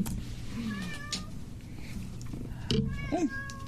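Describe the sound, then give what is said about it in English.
A cat lets out a few short meows, a soft one early and two clearer, rising cries near the end, over a low steady background hum. “Kitties can't eat Danish.”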